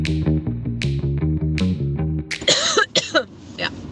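A short burst of several harsh, raspy coughs in quick succession, fairly loud, following a few seconds of rhythmic tonal music.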